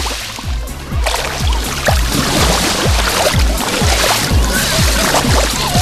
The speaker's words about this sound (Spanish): Ya he dicho que el mar habla también por este micrófono, vamos a ver lo que nos dice. Así suena hoy el mar Mediterráneo en la playa de La Charca.